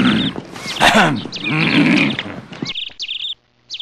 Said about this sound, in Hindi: चल मेरे घोड़े चल।